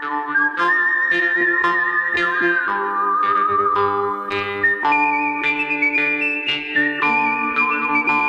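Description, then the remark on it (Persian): A whistled melody of long, sustained high notes from a famous western film score glides over a steady orchestral accompaniment, with rhythmic chords marking each phrase. The music is loud and continuous, with no voices. “همون ملودی‌های خیلی معروف از صوت استفاده کرده.”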